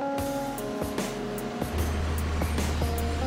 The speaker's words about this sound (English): This industrial dryer spins the coal at high speed until excess water is removed.